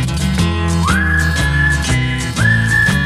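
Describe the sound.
Two clear, sustained whistled notes glide up and hold over a loud, rhythmic musical backing with steady beats, the whistling bright and prominent in the mix.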